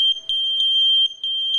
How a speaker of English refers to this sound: Introducing the Kidde Wireless Smoke Alarm System, using wireless technology to link smoke alarms together so that when one sounds, they all sound. In a fire, every moment counts. The sooner you hear a smoke alarm, the sooner you can get out.